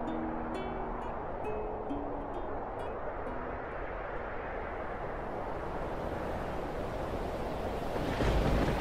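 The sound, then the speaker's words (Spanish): Rough Antarctic sea waves churn in a loud, unbroken roar with gusting wind mixed in, a few faint creaking tones in the first seconds and a heavier surge near the end. “Que la mar está en su bravío antártico.”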